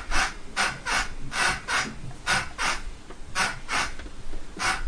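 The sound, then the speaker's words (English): Repeated scraping and rubbing bursts, about ten in quick, fairly steady succession, like heavy furniture being shifted and dragged behind a door. Harsh, hissy texture, moderately loud, with no voices. “Still kinda sounds like he's moving furniture around.”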